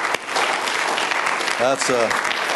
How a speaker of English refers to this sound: What was that last clap for? Where was that?